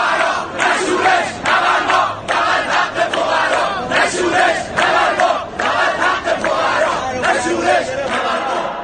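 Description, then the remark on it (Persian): A large protest crowd chants a slogan in unison, loud and rhythmic, with repeated shouted phrases rising and falling in steady waves across the whole stretch. “اول اینکه این اعتراضایی که با این شعار شروع میشه چطور به خشونت کشیده میشه؟ کدوم شعار؟”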